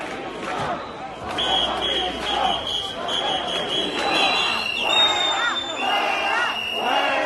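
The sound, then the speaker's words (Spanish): A large crowd at the Plaza de la Armería of the Royal Palace in Madrid shouts "¡Vives al rey!" and boos a politician on his arrival in a dense, continuous roar, with rising and falling waves of voices and piercing whistles cutting through near the middle and end. “a la llegada tuvo que escuchar cómo la gente gritaba «¡Vives al rey!» y le abucheaba a él.”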